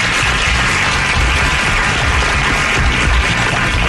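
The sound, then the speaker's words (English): A loud, steady wash of crowd applause and cheering greets the show's host, Ted Nugent: dense clapping with a bright, hissy texture and a low rumble underneath, holding even throughout with no talking. “Crowd goes wild.”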